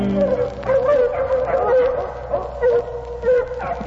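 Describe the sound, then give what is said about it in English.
Several bird dogs bark and yip excitedly at a raccoon treed during a coon hunt, in a near-continuous chorus, with higher whining cries mixed in, loud throughout. “Can't we quiet them bird dogs down?”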